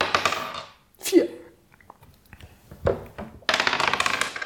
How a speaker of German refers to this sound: Legen wir los, wir würfeln, würde ich sagen. Ja, los.